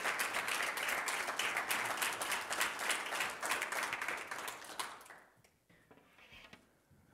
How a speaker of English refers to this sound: Church, could we offer up a round of applause for our actors